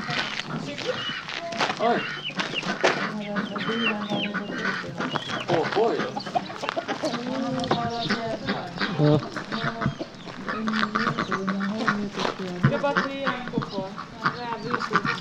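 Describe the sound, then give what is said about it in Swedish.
A flock of backyard fowl clucking and quacking almost nonstop, overlapping calls forming a busy, steady chorus for about fifteen seconds at a moderate level. “Ska vi släppa ut alla pippifåglar?”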